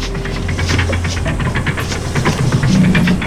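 A steam-powered snowblower bellows at night as it cuts through a wall of snow in British Columbia's Selkirk Mountains: a loud, steady churning roar, rhythmic hissing chuffs pulsing over a low throbbing drone and faint mechanical hum, with no voices.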